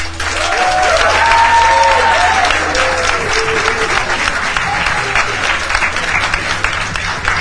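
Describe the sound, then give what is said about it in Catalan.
Loud, sustained applause from an enthusiastic crowd of supporters of a finalist school, the Institut de Deltebre, at a 2024 school contest final on a radio set, dense clapping filling the whole stretch with cheers and whoops rising over it, energetic throughout. “Ara mateix sentireu la claca que porten els dos centres finalistes, per una banda, l'Institut de Deltebre.”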